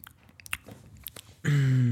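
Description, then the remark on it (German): Potato chips, the next chip variety in a guessing game, being crunched: a string of short, crisp, irregular bites at moderate volume. A loud, steady, sustained tone suddenly cuts in over the last half-second. “Die nächste Chipsorte.”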